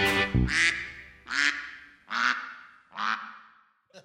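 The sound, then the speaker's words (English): A voice imitates a duck in a song, quacking five times in a steady, evenly spaced rhythm. Each nasal quack is loud, with a short faint sound at the end. “Quack, quack, quack, quack, quack, quack, we're ducks with a watertight bond.”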